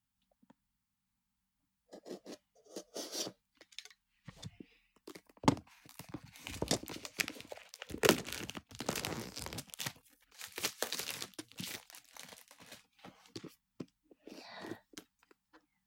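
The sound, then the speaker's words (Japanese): A fairly small cardboard product box being handled and opened: a run of crinkling, tearing and rubbing noises in irregular bursts, fairly quiet, with a few sharper snaps partway through and no talking. “箱はね、そんなに大きくない、あ、これぐらいだろうなって思ってたぐらいのサイズだな。開けていきます。”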